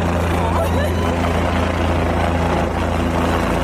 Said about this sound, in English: A helicopter. Over the field.